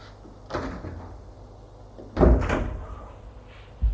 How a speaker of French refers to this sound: Il est entré, elle a fermé la porte.